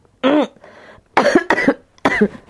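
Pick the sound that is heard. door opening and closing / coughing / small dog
coughing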